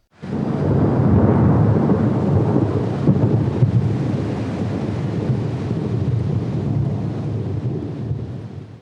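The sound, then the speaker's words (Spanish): Loud, deep thunder rumbles through a terrible night-time storm with lightning, a sustained rolling roar with a heavier crack near the middle, torrential rain and wind hissing steadily underneath. “Una noche estalló una terrible tormenta con rayos y truenos.”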